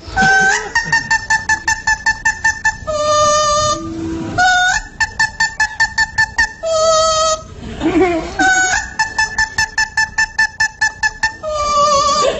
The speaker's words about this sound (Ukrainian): Це Моцарт. Це папуги